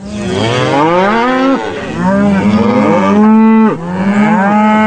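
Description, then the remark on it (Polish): Several dairy cows moo in long, overlapping calls, loud, one after another with no pauses, in a reverberant barn on a farm in Poland holding nearly 400 cattle, about 60% of them mature milking cows. “W oborach macha prawie 400 ogonów, z czego 60% to krowy dojrzałe, które dają już mleko.”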